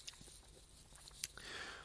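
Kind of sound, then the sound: food or drink, sipping coffee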